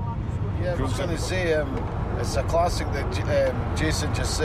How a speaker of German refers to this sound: zwei Tartan-Army-Veteranen, die ihr Team seit Jahrzehnten auf vielen Auswärtsfahrten begleitet haben, nehmen mich im Auto mit zum Spiel.